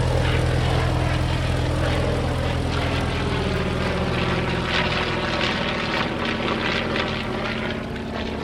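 A small propeller plane's engine roars steadily and loudly in flight as the plane circles around an island, a constant droning hum with a buzzing propeller whine, with no voices.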